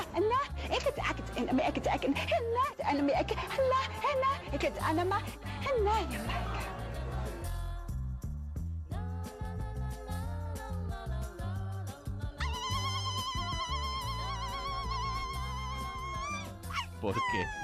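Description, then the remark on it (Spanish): A shrill, high-pitched Basque irrintzi yell rings out in long wavering cries over a loud, busy musical backing, rising even higher and holding steady near the end. “Bueno, pues porque debe tener ancestros, no sé si marroquíes o vascos, pero el irrinchi este que suena de fondo.”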